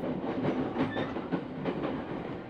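Steady rumble of a crowded commuter train in motion, with a few rhythmic clacks of wheels over rail joints and a faint, brief high squeal; no voices.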